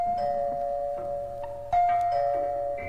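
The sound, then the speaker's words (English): A doorbell chimes with sustained ringing tones, a second brighter note striking partway through and both fading together, clear with no voices. “It was only an hour later, while she was sewing a dress in the living room, that the doorbell rang.”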